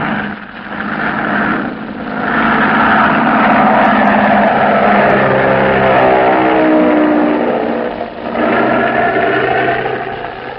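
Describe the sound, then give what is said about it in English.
A loud, steady airplane engine drone with a rough, throbbing hum and a slight shift in pitch partway through, running continuously without any voices; a plane in Panamint Valley carrying a gourd of water on the last stage of its journey. “In Panamint Valley, a plane is waiting to receive it and carry it on the last stage of its journey.”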